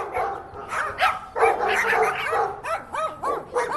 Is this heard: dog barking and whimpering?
yes